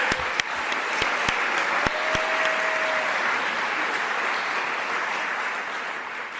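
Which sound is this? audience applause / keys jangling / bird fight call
audience applause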